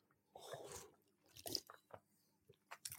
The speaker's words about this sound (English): I just have a bit of drink. Oh, I'll sip of this a minute.